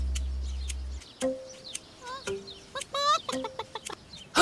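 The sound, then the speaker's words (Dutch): A chicken, one of Moe's hens, clucks in a quick series of short, bright bursts with a few rising squawks, clear, with no talking over it. “Dat was het getok van een van Moe's kippen.”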